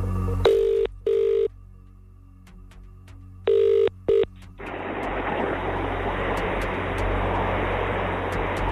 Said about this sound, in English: Let's make a phone call. Here we go. We're going to do cash machine rules. Got to answer within 5 rings.